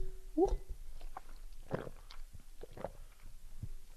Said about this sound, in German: Erstmal einen Schluck Wasser trinken.